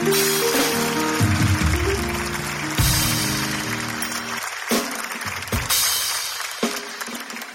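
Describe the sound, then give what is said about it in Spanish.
An audience at a Hablando Huevadas show applauds a 'fighter', steady dense clapping running the whole clip at a strong, even level, with a low tonal hum of music or cheering beneath it during the first half. “Oye, un fuerte aplauso para un luchador, de verdad.”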